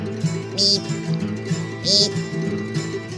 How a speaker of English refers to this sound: Next the American Woodcock.